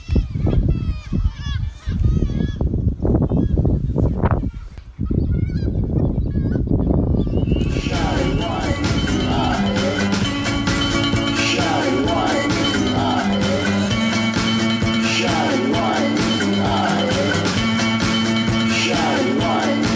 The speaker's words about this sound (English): I'll just let the seagulls tell them how much they love you.